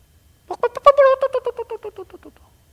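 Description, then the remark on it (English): A human voice imitates a mother hen's low droning clucking, the call a hen uses to gather her chicks when danger comes: a run of about a dozen quick, evenly spaced voiced clucks over roughly two seconds, starting strong and gradually fading. “The mother hen would bring out, they would call this low droning clucking sound.”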